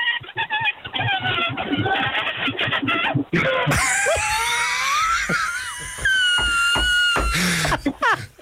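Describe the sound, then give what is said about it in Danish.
A caller to a nationwide radio programme imitates a balloon with a long, high-pitched, wavering squeal, stuttering and pulsing in bursts for several seconds like air squeaking out of a stretched neck. “Er det en ballon, der fiser, eller en ballon, der går i stykker?”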